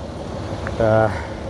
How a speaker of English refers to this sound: And it was one of these, it's Monday, so there's a garbage truck. I'm just going to have to get past that. Tell you what, I'll pause so you don't have to listen to that truck engine whirring away.